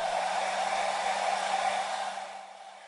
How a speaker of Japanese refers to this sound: ドライヤーかけるから。暑かったりしたら言えよ。